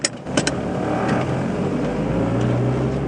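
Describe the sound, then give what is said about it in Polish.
A car drives steadily on a few-minute drive from Supraśl to Kopna Góra, with a continuous engine hum and road rumble, the engine tone rising slightly toward the end, a few brief clicks near the start, no voices. “Zaledwie kilka minut jazdy samochodem od Supraśla, już jesteśmy w Kopnej Górze przy powstającej pokazowej zagrodzie żubrów.”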